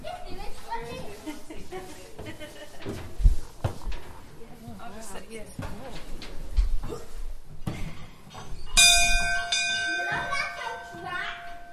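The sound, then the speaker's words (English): Children chatter and play aboard the MV Ongaroo, then toward the end the boat's bell rings out loud, its bright metallic tones lingering and overlapping as the kids keep talking. “The young man who works on the Waimari was telling us that if you rung the bell 16 times, it indicated how high or low the river levels were, and then you waited and you rung it.”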